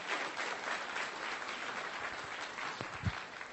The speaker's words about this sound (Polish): chciałbym, abyśmy bardzo serdecznie przywitali naszymi oklaskami wykładowcę wczorajszego kasnodzieje,